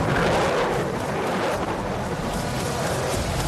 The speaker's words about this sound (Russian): Вот так эффектно Су-35 сужает сопла. Благодаря этому он сейчас выруливает на взлетную полосу. Уникальная машина, уникальный истребитель.